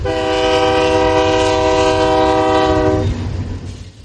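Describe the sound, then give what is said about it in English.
A freight train's horn blares loudly in one long sustained blast over the heavy rumble of passing rail cars, cutting off after about three seconds while the rolling train noise continues. “Much of the crude oil leaves the area by train, but several accidents have raised concerns about the method of transportation and the oil itself.”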